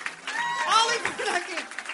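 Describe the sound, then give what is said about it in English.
Steady crowd applause at the end of a comedy show at the New York Comedy Festival fills the two seconds, a dense wash of clapping with a man's voice and scattered cheers rising over it. “And keep applauding for Rachel Dratch was here.”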